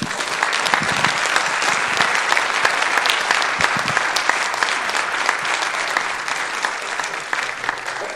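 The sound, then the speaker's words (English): Sustained applause from a sizable audience, a dense wash of many hands clapping at once, steady and fairly loud for the full eight seconds with no voices standing out. “Let's clap for”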